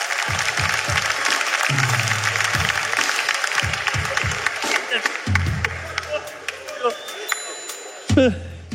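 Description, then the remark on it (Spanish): An audience claps steadily for several seconds for some women, a dense, bright crackle of many hands, while voices call out and talk over it, ending with a louder shout. “Un fuerte aplauso para ellas.”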